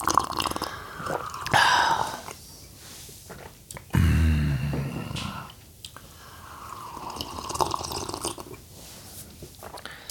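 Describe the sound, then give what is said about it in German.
Wet slurping of hot brewed coffee, drawn in through the lips in several noisy sips with short pauses and a louder gulp midway, with no talking. “Dieses saftige Schlürfgeräusch wurde Ihnen präsentiert von Krups Aroma Plus.”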